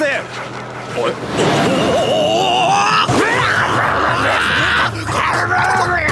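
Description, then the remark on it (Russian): A dog named Iggy, a former New York stray, snarls and growls loudly and continuously amid scuffling noise, the harsh, strained sounds rising and wavering for several seconds. “Он? Собака? Неужели это пес?”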